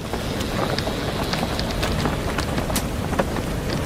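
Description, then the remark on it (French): Steady, loud storm noise: rushing wind, creaking and big waves with deep troughs roar continuously, with sharp cracks and splashes scattered throughout. No voices are heard. “écoutez cette tempête, le craquement, le vent, les grosses vagues, les bons creux.”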